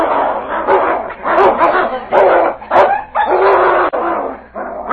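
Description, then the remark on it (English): Loud animal fight: continuous snarling and growling broken by sharp barks and yelps, thrashing and overlapping with no pauses, as the dog King battles a huge timber wolf beneath a tree in a forest. “The King launched himself at his throat with a roar of defiance.”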